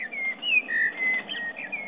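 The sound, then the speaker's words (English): A blackbird sings in midsummer in Kew Gardens, a flowing run of clear, fluty, warbling phrases, with a faint muffled background hum and no talking. “That's a blackbird in midsummer in Kew Gardens, sending her best wishes for you in the middle of your winter.”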